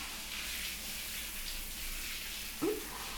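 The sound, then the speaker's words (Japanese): A shower runs steadily, giving a soft, even hiss of falling water throughout, with a brief, faint blip of sound near the end. “シャワーの音が聞こえなかった？”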